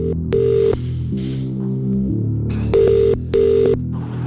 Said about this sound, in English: Right, let's find out whose week we are making. The phone is ringing right now.